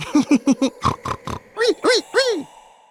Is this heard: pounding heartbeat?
no